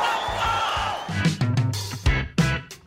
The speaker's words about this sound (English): I love hearing the let's go scream in the background.